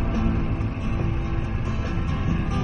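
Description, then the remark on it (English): A pop song plays continuously at a steady, moderate volume, its sound somewhat muffled and thin, played by students on their laptops in a cafe in Kathmandu. “Listen to what the students are playing on their laptops in this cafe.”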